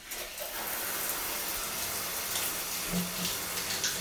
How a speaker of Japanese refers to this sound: ちょっとシャワー出すよ。うるさいかな。